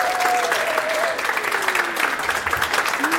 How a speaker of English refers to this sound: So without further ado, please first of all give a round of applause, everybody, to an amazing comedian and podcaster. He hosts the very brilliant The Power Meeting here in Sweden.